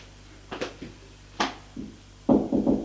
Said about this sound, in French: Il va frapper à la porte de Julien.